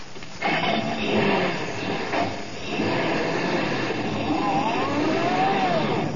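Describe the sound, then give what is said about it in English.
A truck engine roars steadily as it speeds along toward the railroad station, with a loud, continuous rumble and rising whine throughout, sustained for several seconds. “Now, come on, drive us down to the railroad station and step on it.”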